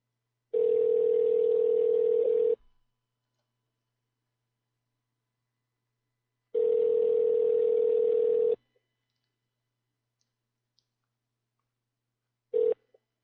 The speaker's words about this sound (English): Your call has been forwarded to an automatic voice message. You pick up the damn phone, you motherfucker.